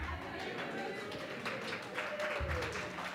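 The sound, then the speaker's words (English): Steady hand clapping fills a few seconds, a dense run of quick, overlapping claps at an even, moderate loudness, with a faint voice mixed in underneath: a speaker applauding the audience on an anniversary for making it the best year ever. “I am applauding you for making this the best year ever.”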